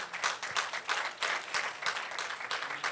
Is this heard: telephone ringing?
no